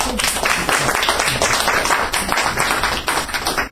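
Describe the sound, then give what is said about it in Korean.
A crowd claps steadily, dense overlapping hand claps forming a sustained wash of applause that stays loud throughout before cutting off abruptly at the end. “다시 한번 박수로요.”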